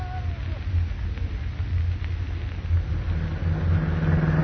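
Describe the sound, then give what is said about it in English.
A steady, low engine rumble drones throughout as a car drives along at night, with a faint whine and some muffled background noise over the continuous hum. “What's the idea of not letting me drive my own car?”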